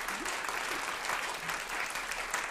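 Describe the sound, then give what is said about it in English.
A sustained wash of applause from an audience of New Yorkers from many immigrant communities and the tri-state region, with guests on a stage also clapping; many hands clapping steadily at an even loudness throughout, dense and unbroken, with a faint murmur of voices mixed in. “And applaud for yourselves, an audience of New Yorkers from many immigrant communities and elsewhere around the tri-state region.”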